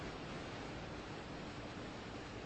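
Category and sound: nature, water falling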